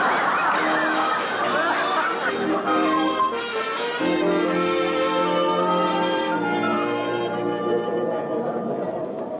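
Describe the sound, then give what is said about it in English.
A dense crowd at a theater murmurs and chatters continuously, many overlapping voices blending into a steady, fairly loud babble with no single speaker standing out. “Oh, my, there's a crowd.”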